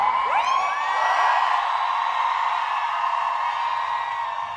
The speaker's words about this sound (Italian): Sentiamo un applauso e pensiamo che sia legato a un evento della Biennale, invece no, si tratta di un suono dello sciopero delle donne del giugno scorso a Zurigo.